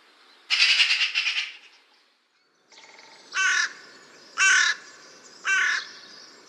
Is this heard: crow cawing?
yes